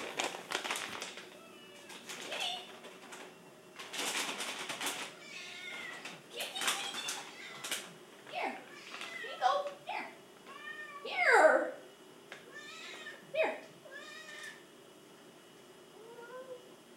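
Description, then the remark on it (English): A cat meows repeatedly, a string of short, rising-and-falling mews leading up to one louder, drawn-out cry, with brief clattering and rustling early on. “Kitty, kitty, kitty.”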